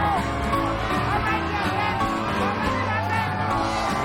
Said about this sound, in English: A crowd cheers.